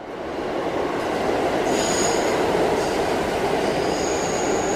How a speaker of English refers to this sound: This is what always happens to me. I don't know if there's a word for it, but I think there should be a word for it. When a train shows up on every track but yours, that always happens to me. Every time I'm at a subway station, there's four tracks,